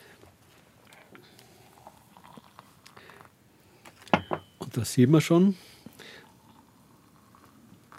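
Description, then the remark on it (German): Water splashes and gurgles in a couple of short pours filling small pots half full, lasting only a second or two, with a man speaking quietly before and after. “Und jetzt kommt überall in die Kännchen halb voll Wasser rein.”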